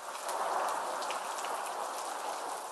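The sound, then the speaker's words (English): Steady rain falls in a dense, continuous hiss, with faint individual drops pattering through it. The sound is even and moderately loud throughout, with no voices. “Now, today, we talk about something found everywhere in the world, rain.”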